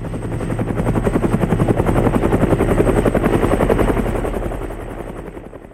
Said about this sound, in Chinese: 过了一会儿，头上又开过了那种军用的直升机，然后超级大的声音。